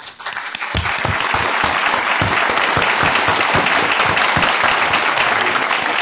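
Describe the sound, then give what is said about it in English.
Loud, sustained applause from a large audience at a conference, welcoming Supreme Master Ching Hai; dense clapping that swells within the first second and continues steadily without a break. “Let's give a warm round of applause to welcome our most honorable Supreme Master Ching Hai.”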